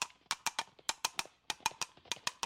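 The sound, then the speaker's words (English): Horse hooves clip-clop in a quick, galloping rhythm as Dudley's horse sets off, sharp knocks landing in uneven clusters of three or four, clear with no voices. “Horse, off we go. We must save Nell.”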